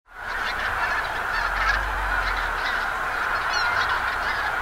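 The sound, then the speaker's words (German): A dense, continuous chorus of large flocks of geese and cranes calling overhead as they land on Gülper See for the night at dusk in autumn, heard from the south shore, Havelland, Brandenburg, Germany; many honking and trumpeting voices overlap into a steady clamor, with a low rumble underneath and no talking. “Große Trupps Gänse und Kraniche landen auf dem See zur Nacht.”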